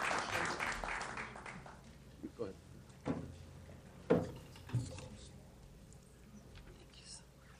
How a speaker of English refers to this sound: Round of applause. Thank you. Thank you very much, and thank you for the great work.